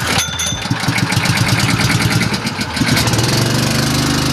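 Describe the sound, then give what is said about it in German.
A well pump's small engine sputters to life with a rapid, uneven chugging as the well is started to get water, then settles into a steady, loud mid-pitched idle hum. No voices are heard. “Jetzt starten wir den Brunnen und du gehst mit der Gießkanne.”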